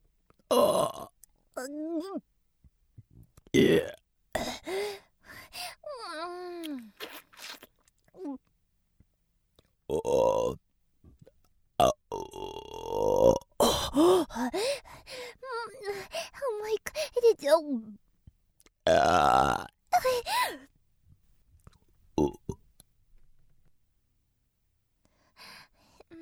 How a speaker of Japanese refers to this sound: ゲップ出ちゃいそう。